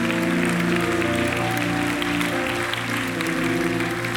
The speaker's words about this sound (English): If you believe that, just praise Him for a moment with a clap.